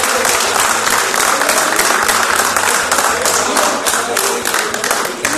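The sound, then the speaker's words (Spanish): A large audience applauds steadily and loudly for a recognition presented to a teacher, a dense wash of clapping hands that holds for several seconds without letting up, with faint background murmur underneath. “Un fuerte aplauso para ellos.”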